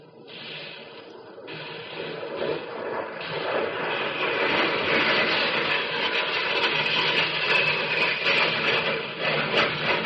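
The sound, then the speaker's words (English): A bomber's engines roar in a dense, rushing drone as it drops lower on a bombing run, streaking along a river toward a bridge target, swelling louder over the first few seconds and then holding steady, a continuous hiss-laden rumble with no voices. “You drop down lower and streak for the river toward the target.”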